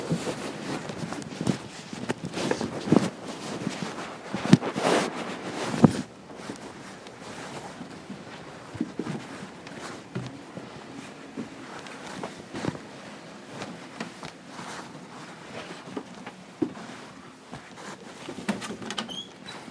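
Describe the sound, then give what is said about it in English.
Someone walking with a cane: uneven taps and footfalls, louder and busier for the first few seconds, then softer and sparser against a faint background rustle. No one speaks. “I'm gonna grab my cane here.”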